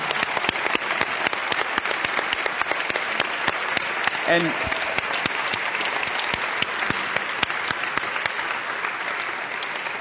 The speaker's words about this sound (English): You want to give them a round of applause? Yeah, I mean, yeah, let's do that.